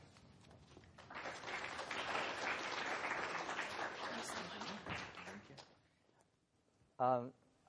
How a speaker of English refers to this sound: When people clap after the introduction, are you clapping for the person who's just given the introduction or the person who's about to speak?